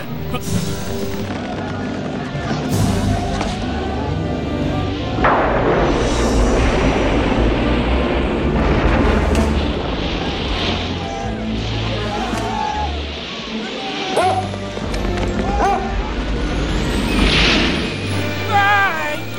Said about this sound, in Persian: طوفان شده، بلند شید تنابه رو محکم کنه.